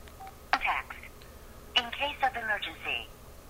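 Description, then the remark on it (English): Two phone key presses, hitting the context key at the top right of the closed phone, each a sharp electronic beep a little over a second apart, each followed by a short stretch of voice from the handset, moderately loud. “We're going to hit the context key, which you remember is the top right on the phone when it's closed, outside of the little arrow keys.”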